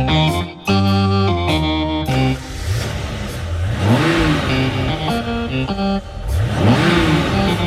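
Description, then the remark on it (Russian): Parked car engines in a parking lot rumble to life and rev up, the cars shuddering slightly, loud and steady, with two distinct rising revs swelling over a continuous motor drone and no voices. “И сейчас же машины на стоянке зафурчали, слегка вздрагивая.”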